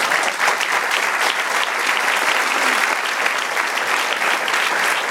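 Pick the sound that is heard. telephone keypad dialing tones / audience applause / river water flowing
audience applause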